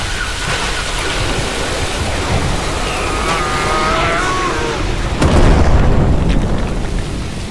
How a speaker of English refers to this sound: The walls have crumbled.